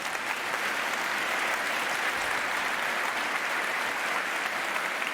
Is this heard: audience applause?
yes